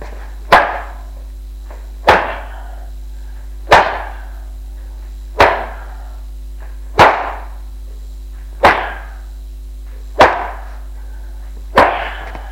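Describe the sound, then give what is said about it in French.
Eight sharp, loud lashes of a man's belt striking a woman all over her body, evenly spaced about a second and a half apart, each a crisp crack with a brief decay, over a low steady hum and no voices. “Il quitte sa ceinture et la frappe sur tout le corps.”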